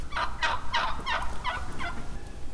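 A wild turkey gobbles: a quick, rattling run of about six throaty notes that tapers off over a couple of seconds, clear, with no one talking.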